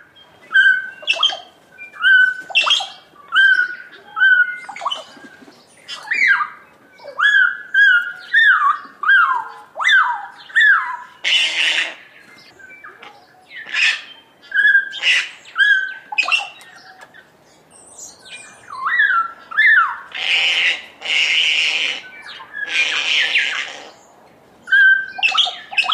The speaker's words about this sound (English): At a bird feeding station, we listen to the sounds of kakas, bellbirds, and other species.